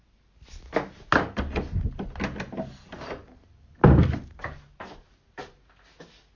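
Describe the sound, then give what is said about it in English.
A door is handled and shut: a run of rattling clunks, then a heavy thud as it closes, followed by several lighter clicks as the door is locked. No one speaks. “The door is locked”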